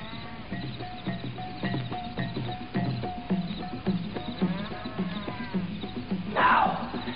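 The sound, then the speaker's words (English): A lion emerging from the bush growls and roars in a steady series of rough, rumbling calls, ending with a louder, harsher roar near the end. “And the lion emerged from the bush.”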